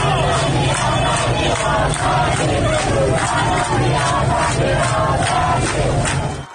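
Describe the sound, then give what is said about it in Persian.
A large crowd of protesters in the street in Borujerd, Lorestan province, chants and shouts together in a steady, rhythmic cadence, the massed voices loud and continuous throughout, with periodic swells as the chant repeats. “همزمان با این مراسم در برخی از شهرهای استان لرستان هم معترضان به خیابان‌ها آمده بودند.”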